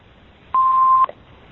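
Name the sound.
telephone keypad dialing tones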